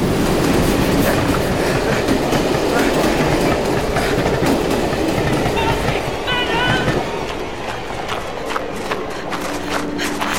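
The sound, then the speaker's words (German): A train rumbles loudly past on the tracks, with a dense roar and rhythmic clatter of wheels that gradually eases off toward the end, with some faint squealing mixed in. “Er wird nicht rüberkommen! Der Zug!”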